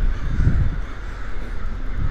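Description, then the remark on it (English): Crows caw harshly outdoors, a few rough calls rising out of steady background noise, moderately loud and with no one speaking. “dude was just discovering the crows.”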